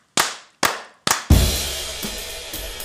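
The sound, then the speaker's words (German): Three sharp, evenly spaced hand claps ring out alone, each with a short decaying tail, followed by a loud, sustained burst of full-bodied sound that carries on underneath. “Dann klatsche ich jetzt trotzdem, weil ich es mir einbilde.”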